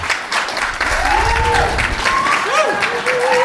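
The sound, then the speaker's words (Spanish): A crowd claps loudly and steadily throughout, with scattered cheers and whoops rising above the dense, continuous applause, given in honour of the women working in the kitchen before a protest is read. “En honor de mis compañeras que están en la cocina, todas esposas de compañeros desplazados principalmente, pido un fuerte aplauso antes de leer esta protesta.”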